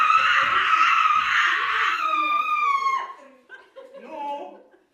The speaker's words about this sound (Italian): Queste grida terribili non rischiano di traumatizzare gli studenti. La scuola, infatti, a parte noi, è completamente vuota.